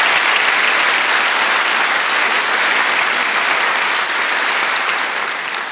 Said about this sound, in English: Give these gentlemen a round of applause.